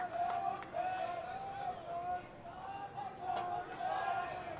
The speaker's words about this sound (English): There's that crowd. Glance at them for those watching on MILB TV tonight.